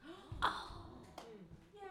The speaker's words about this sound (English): There were a lot of gasps for those of you in our global audience who are listening to this right now and aren't seeing the pictures. There were a lot of gasps.